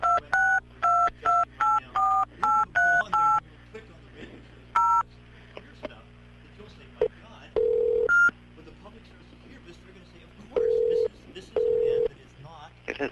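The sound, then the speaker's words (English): A quick, even run of about eight telephone keypad tones, then a few scattered beeps and several longer held tones spaced apart, all clear over a quiet line hum, as a caller dials a county district attorney's office again. “Let me play the next clip, because I called her right back again.”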